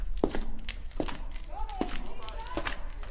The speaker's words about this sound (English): The devil can hear Jesus' footsteps. That's what he can hear Jesus coming. He can hear Jesus coming. Do I hear footsteps? Do you hear Jesus' footsteps?